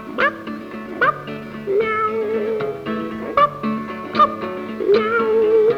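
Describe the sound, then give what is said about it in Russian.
A cat meows over and over, about six clear, fairly loud calls spaced roughly a second apart, with a steady tonal hum running underneath throughout. “Имел он собаку по прозвищу Боб и кошку по прозвищу Читеробоб.”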